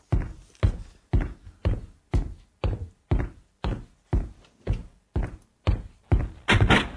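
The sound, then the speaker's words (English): A steady run of about a dozen heavy footsteps thuds at an even walking pace as a person walks to answer the doorbell, ending in a louder clatter as a door is opened. No voices. “I love how I have to keep walking after I open the door.”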